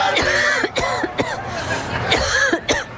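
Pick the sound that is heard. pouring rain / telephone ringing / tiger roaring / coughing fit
coughing fit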